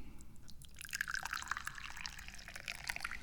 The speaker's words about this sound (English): And it is pretty much a tradition for me to now pour the tea.